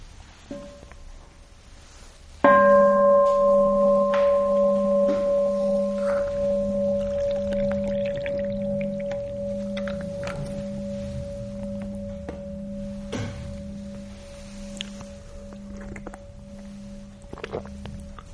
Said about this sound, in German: Ja, dann hören wir nochmal die Glocke.